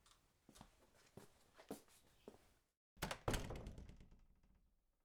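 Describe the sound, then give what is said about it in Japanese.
A door opening onto the front entrance of a house: a few soft wooden thuds and knocks, a brief silence, then a loud clunk of the latch and panel that rings out and fades slowly. “扉を開けると、あなたの家の玄関が見えます。”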